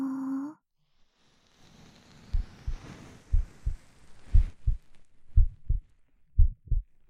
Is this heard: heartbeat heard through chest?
yes